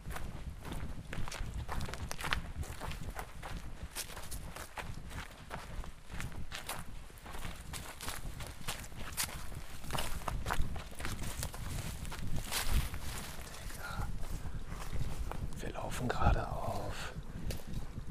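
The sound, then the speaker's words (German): Steady footsteps crunch along at a walking pace behind garages, a continuous rhythm of soft scuffing steps on rough ground with faint rustling around them. “Wir gehen jetzt hier einmal hinter den Garagen entlang”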